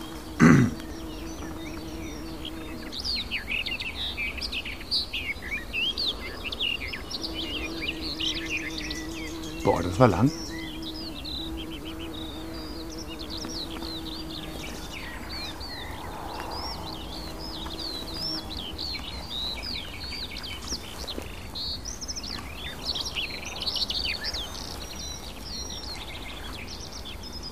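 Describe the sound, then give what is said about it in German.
A songbird sings a long, varied, continuous song of quick chirps and twittering phrases, some resembling a blackbird, over a low steady hum, with a brief remark from a person near the start. “Und auch sie streut Imitationen mit rein. Es klingt so ein bisschen die Amsel raus.”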